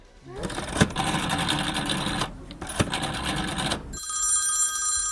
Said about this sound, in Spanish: Soy el único que tiene un teléfono móvil con el disco, ¿eh? Antiguo, ¿eh?